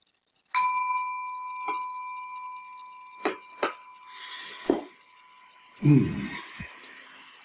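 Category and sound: signal or alarm, small bell ringing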